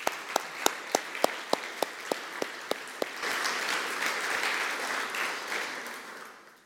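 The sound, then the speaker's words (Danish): An audience applauds for mothers on Mother's Day: a few regular, sharp claps at first, then a dense, steady wave of clapping from many hands that holds for several seconds before fading out. “Men for dem, der er mødre, så synes jeg, vi skal give dem en anerkendelse i form af en klapsalve, for det er mors dag i dag.”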